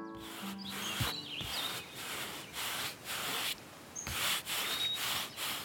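A paintbrush, dipped in a bucket of paint, swishes paint across a wall in a steady series of about six or seven brisk, hissing strokes, with faint bird chirps in the background and no talking.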